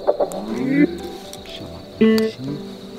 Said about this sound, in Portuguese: O bicudinho é um pássaro bem territorialista. Se ele escuta o canto de outro bicudinho, ele vem correndo ver o que tá acontecendo.